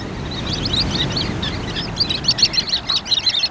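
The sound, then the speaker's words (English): A flock of sanderlings, small pale silvery sandpipers, gives rapid, high twittering calls, overlapping chatter that grows busier and more insistent toward the end, over a steady low rumble of surf or wind, at the water's edge on a winter shoreline. “These small sandpipers are called sanderlings.”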